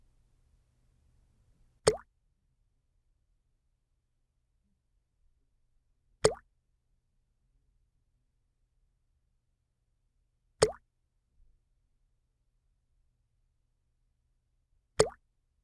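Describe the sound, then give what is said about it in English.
Four single water drops plop one at a time, about four seconds apart, each a sharp, bright splash followed by silence. No voices are heard. “Remember to name the sound water each time you hear it.”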